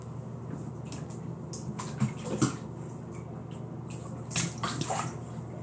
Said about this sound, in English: The bath is so warm. It's like too hot. It feels really good. I have like a big tub, so it's big enough for two people. I'm just running the water all over my legs.